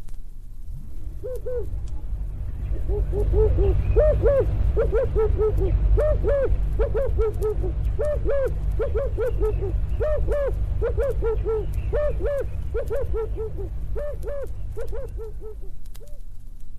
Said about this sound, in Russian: А сейчас, дорогой голубь, слушай, тебе отвечает африканская горлица.